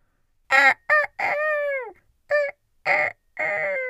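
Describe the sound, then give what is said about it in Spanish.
A rooster crows loudly: a few short, harsh bursts, one long drawn-out call that sags in pitch, then more clipped cries with brief pauses between them. “Enderezaba sus patas, estiraba el cuerpo, alargaba el cuello, abría desmesuradamente el pico y cantaba, contestando a las golondrinas.”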